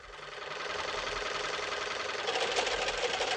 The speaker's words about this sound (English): Having trouble with your sewing machine?